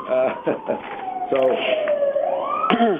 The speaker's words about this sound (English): And let me say at this point in time, just as soon as the siren goes by down outside my window